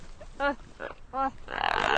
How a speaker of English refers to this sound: Now, let's listen to the gelada monkey again.